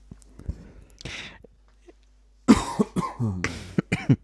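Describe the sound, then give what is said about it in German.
Someone clears their throat: a few soft rasps at first, then a louder run of harsh, rough bursts with short voiced grunts between them. “Oh, Entschuldigung, ich mute mich mal kurz zum Räuspern.”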